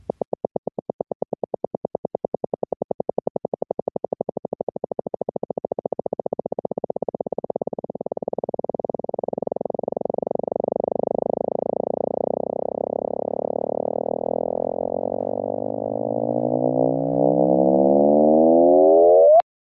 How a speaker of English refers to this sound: start to transpose radio signals from things like black holes and pulsars, if you transpose those down into the audible range, they become very, very interesting sounds indeed. And there are recordings of those on the web, which anybody can access.